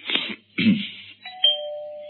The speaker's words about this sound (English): Try the bell, sir.